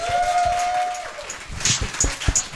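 An audience at a talent show applauds a performer with scattered claps and thumps, joined by a sustained whistle early on and a few sharp, high whistles near the end.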